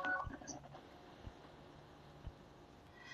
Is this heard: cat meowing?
no